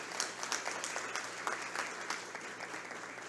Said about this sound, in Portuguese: De igual modo, também uma salva de palmas.